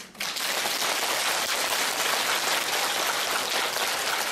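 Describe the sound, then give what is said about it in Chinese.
An audience at a Buddhist talk applauds the speaker steadily, a dense, even wash of many hands clapping that starts abruptly and holds at a constant loud level without any voices. “好了，你们再鼓掌，我也不跟你们讲了。”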